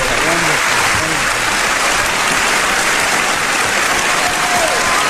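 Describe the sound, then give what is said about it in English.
Sustained, loud applause from a large crowd for Charlie Chaplin as he walks up to a podium, a dense steady wash of clapping with faint voices and cheers mixed underneath. “See what I mean? That applause just went on for and so well deserved.”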